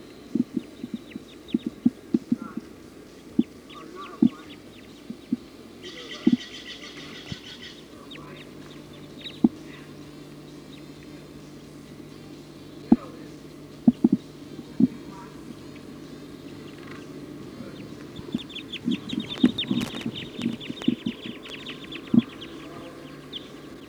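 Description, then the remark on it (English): A flock of about 20 Type 2 birds, perched at the top of a pine tree, calls in scattered, high-pitched chirps and chatter, with busier bursts now and then over a low, steady background hum and occasional sharp clicks. “According to the flock is calling now.”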